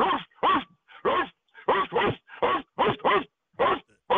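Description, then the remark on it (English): A caller from H-Town phoning into a show imitates a dog in a 'Framber Valdez bark', letting out about ten loud, rapid barks in a steady, rhythmic run. The sound is slightly thin, like it is coming over a phone line. “What's your name and give us your bark?”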